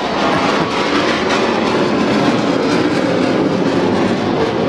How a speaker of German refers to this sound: Für mich sind einfach Flugzeuge, die Lärme machen. Das sind Flugzeuge, oder?